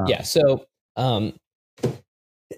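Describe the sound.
A sneeze, a short burst with a sharp, hissy attack, followed by a couple of brief voiced sounds and a faint trailing noise.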